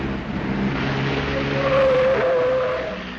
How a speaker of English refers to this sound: Not only great scenes of tires squealing, but a little racy dialogue as well. It's racy, as it were. Yeah. I love this car chase.